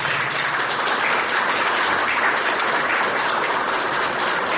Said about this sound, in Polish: Tak, należy brawa, świetnie.